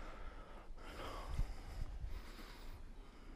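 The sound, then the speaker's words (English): A single slow, deep breath, a long airy inhale that swells and then eases off, with no talking over it. “Breathing and being breathed. Being breathed and breathing.”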